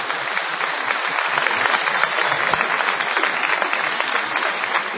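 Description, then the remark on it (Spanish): An audience applauds steadily throughout, a dense, even wash of many hands clapping at constant loudness with no voices standing out. “Aplaudan una vez a Mirraghi.”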